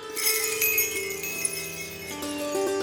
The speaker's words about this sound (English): There it was, the bells again, closer this time. Where were they coming from?